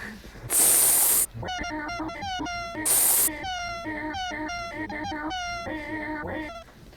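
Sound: cat meowing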